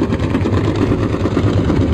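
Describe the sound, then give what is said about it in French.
A steady, low mechanical drone with rhythmic throbbing pulses from a merchant ship's engine, recorded underwater 3 km from the ship; continuous and fairly loud, with no voices. “Nous sommes sous l'eau, à 3 km d'un navire marchand. Vous l'entendez ?”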